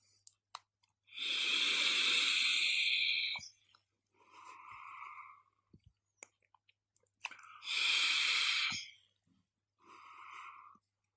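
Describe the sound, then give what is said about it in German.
Two long, hissing, crackly inhales on an e-cigarette, a Newell Crown 3 with Pinkman liquid, each followed by a shorter, softer breathy exhale. No one speaks, and faint clicks sit between the drags. “Und ich würde sagen, ich nehme jetzt einmal einen tiefen Zug vom Pinkman aus dem Newell Crown 3 und werde da so einen kleinen Erfahrungsbericht geben.”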